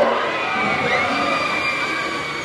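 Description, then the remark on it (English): Roller coaster riders at Disneyland in Southern California scream together on a Monday afternoon in a sustained, high-pitched chorus, steady and loud over the full stretch, with a faint mechanical rumble underneath and no talking. “Roller coaster riders scream at the top of their lungs on a recent Monday afternoon at Disneyland.”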